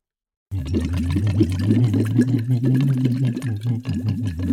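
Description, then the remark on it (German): A voice hums a steady melody through a silicone tube dipped into the water of a water bottle, producing continuous bubbling and gurgling that lasts throughout, fairly loud, with the pitch of the voice audible beneath the burbling. “das steckst du dort in die Wasserflasche rein und je nachdem, wie tief du diesen Silikonschlauch in das Wasser hineintauchst, desto mehr Widerstand bietet das deinem Atem, wenn du mit Stimme da Blasen blubberst.”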